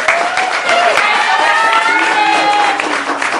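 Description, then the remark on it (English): An audience breaks into steady, loud applause for a woman speaker, dense clapping lasting a few seconds with excited voices and cheers rising through it. “If you guys want to give her a round of applause.”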